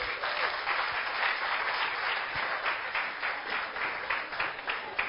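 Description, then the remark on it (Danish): A crowd claps steadily for several seconds, dense and continuous applause, with faint voices mixed underneath. “Skal vi lige klappe af dem?”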